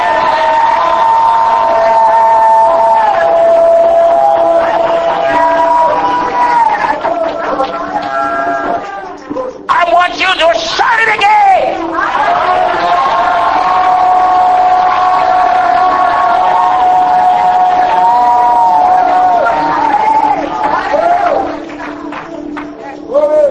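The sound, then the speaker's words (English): A large audience, asked to practice shouting hallelujah, shouts hallelujah together, many voices blending into a loud, sustained roar that swells and briefly breaks before rising again, energetic. “I want everybody to shout hallelujah.”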